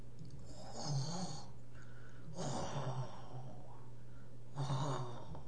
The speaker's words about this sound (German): Und als er sich ein wenig setzt, um nachzudenken, stutzt er, horcht und hört ein leises Schnarchen gleich neben ihm unter den Bäumen.